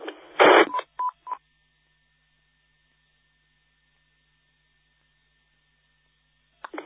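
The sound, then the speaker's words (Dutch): A harsh burst of static is followed by a few quick, clipped telephone dialing tones, then a long stretch of near silence with a faint steady hum before another short crackle at the end. “Zeker telefoon.”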